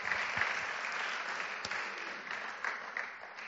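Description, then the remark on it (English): A crowd applauds steadily, many hands clapping in a dense, continuous patter with a few sharper individual claps poking out, sustained at a moderate level throughout. “Can you say for a hand clap here?”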